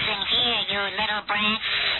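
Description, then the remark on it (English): A Furby toy makes warbling, garbled electronic vocal noises, heard over a phone held next to it: a tinny, strained, croaking babble that rises and falls in pitch almost continuously, broken by a couple of brief pauses. “Listen to this Furby. I'm going to put the phone next to the Furby right now. It's making all kinds of demonic noises, and it's making all kinds of cursing and gestures at me.”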